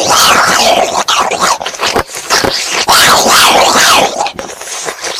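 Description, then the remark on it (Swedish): Loud, wet slurping and sucking on a sex toy, a continuous stream of smacking, gurgling mouth noises with brief breaks and groan-like vocal sounds mixed in, ending in a final slurp. “And then she has a dildo and she sucks on it real quick.”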